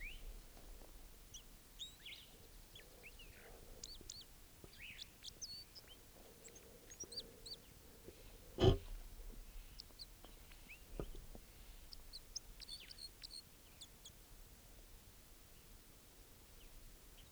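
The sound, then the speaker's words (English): A male wild bird, sitting by himself, calls in short, high chirps and whistles scattered across a faint, hissing outdoor background, with one sharp loud snap or knock midway through. “Recording that bird now.”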